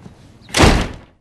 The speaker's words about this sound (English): And the door slammed in his face.